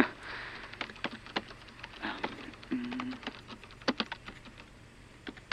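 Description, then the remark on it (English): Someone types on a computer keyboard at an uneven pace, with crisp clicks. Quick bursts of keystrokes are separated by short pauses, and nobody speaks. “You know how to work a keyboard, so you're already better than most of them.”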